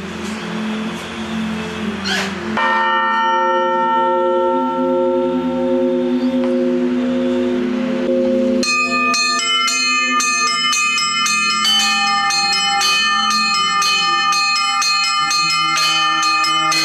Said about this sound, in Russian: Пришла на приход, мне стало интересно попробовать позвонить в колокола.